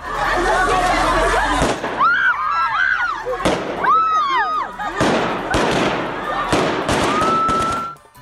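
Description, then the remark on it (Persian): Gunshots fired into the air by Taliban security forces at a protest by dozens of women in Kabul, Afghanistan, crack out roughly six times at irregular intervals, sharp and loud, over a crowd whose high-pitched shouts and cries swell between the shots. “در ادامه برنامه می شنوید که اعتراض ده‌ها زن معترض در شهر کابل امروز با استفاده از موترهای آبپاش و فیرهای هوایی نیروهای امنیتی حکومت طالبان مواجه شد.”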